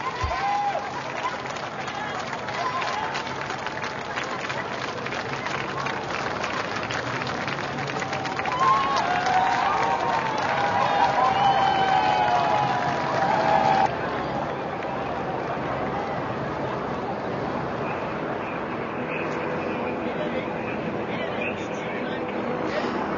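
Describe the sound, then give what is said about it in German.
A large crowd in Regensburg applauds and cheers steadily for over twenty seconds as Pope Benedict XVI passes in a panoramic car, a dense wash of clapping and voices, with a high whistling tone rising and wavering through the middle. “Słyszymy oklaski, wiwaty, pozdrowienia.”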